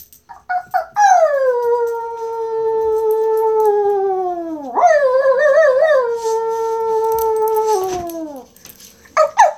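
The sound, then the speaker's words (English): A person howls at their dog Barney, a small pug-faced dog, imitating a dog's howl: one long, sustained wavering howl that dips, rises again with a warble, and trails off, loud, preceded by a few short yips. “Let's see what you do if I howl at you.”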